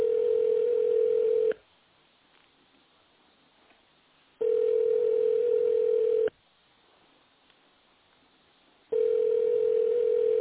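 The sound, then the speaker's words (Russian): A telephone rings on the line without being picked up: three long, steady, mid-pitched ringback tones, each lasting about a second and a half, separated by silent pauses of a few seconds. “Пока что абонент не отвечает.”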